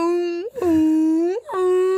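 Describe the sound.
A human voice imitates a whale call: three long, steady moaning tones at a low-mid pitch, linked by brief upward swoops between them, loud and heard alone.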